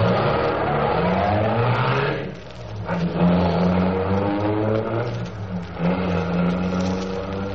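A car engine roars loudly, revving hard with rising pitch as it accelerates, dips briefly, then surges again in a steady, powerful drone.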